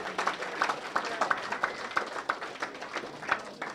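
An audience at a chicken fried steak dinner applauds, many hands clapping in a dense, steady patter that fills the room at moderate volume, with a few sharper individual claps standing out.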